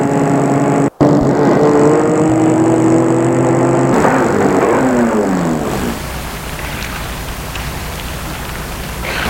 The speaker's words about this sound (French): Il arrive devant l'immeuble où habite Harold. Il va arrêter sa voiture.